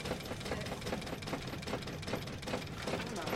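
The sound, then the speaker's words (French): An engine, just switched on, runs steadily with a rapid, even chugging knock, fairly loud, holding a constant level throughout with no voices. “Moteur allumé.”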